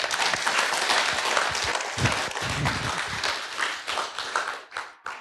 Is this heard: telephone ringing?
no